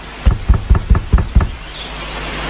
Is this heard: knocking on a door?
yes